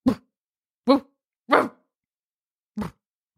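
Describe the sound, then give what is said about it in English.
A person imitates a relaxed, sleepy dog with four short, low, breathy woofs, spaced unevenly with pauses between them, sounding lazy and relaxed rather than alarmed. “I only know how to do relaxed dog,”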